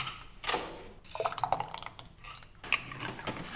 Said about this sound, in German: So klingt es, wenn Marmelade abgefüllt wird. Die Aufgaben sind dabei klar verteilt.